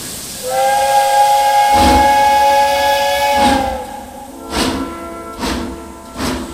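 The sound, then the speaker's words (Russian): A steam locomotive's whistle blows one long, loud, steady blast over a constant hiss, then a few heavy chuffs of steam puff out at an uneven pace as the "Semipalatinsk" train starts departing. “Поезд «Семипалатинск» отправляется через несколько минут.”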